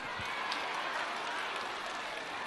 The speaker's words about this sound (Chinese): 我们再一次用最热烈的掌声，感恩大慈大悲的观世音菩萨，感恩大慈大悲的卢军宏台长。